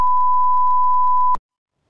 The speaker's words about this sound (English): You know what I love about the bleep sound? It's that no matter what language you speak around the world, you always know what it means.